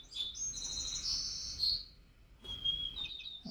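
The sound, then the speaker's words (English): A white-crowned sparrow sings clear, high whistled notes followed by a buzzy trill, then a brief pause and another thinner phrase, alone with no talking. “That was a white-crowned sparrow.”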